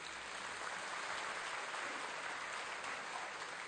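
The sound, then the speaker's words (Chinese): A church audience claps steadily for several seconds for couples married over fifty years, a dense, even wash of many hands with no voices over it. “我好像啊，有一非常好，我们拍手。”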